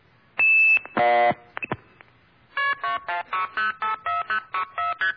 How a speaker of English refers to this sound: That little tone you hear right after the 2600 burst, that's what is called a tone applier. This is a special little device set aside,